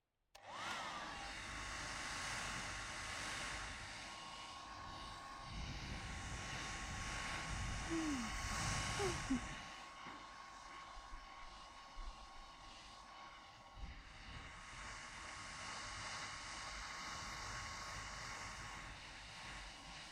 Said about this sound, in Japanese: ドライヤーの熱、熱かったりしませんか？まあ、ドライヤーの風はあんまり熱すぎるといけないんですよね。 うん、 冷たい風や、こういった生ぬるい風で、ゆっくり乾かしていくのが一番なんです。